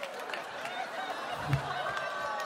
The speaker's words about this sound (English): What are you booing? What are you booing? The measles, good. They can hear you.